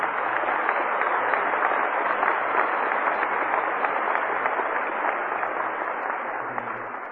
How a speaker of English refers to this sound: I don't want to cut that short, the clapping, because it could go on forever